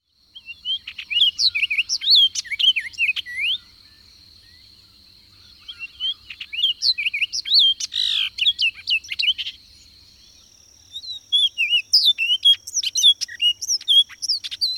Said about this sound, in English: And the orchard oriole's song.